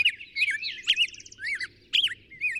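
Birds singing, a lively run of bright chirps and warbling phrases in quick bursts with short pauses, over a faint low background hum.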